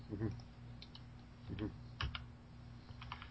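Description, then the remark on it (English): Quiet, irregular clicking of computer keys and a mouse, a handful of short taps scattered across a few seconds over a low background hum. “I'm pointing and clicking in this hacking system.”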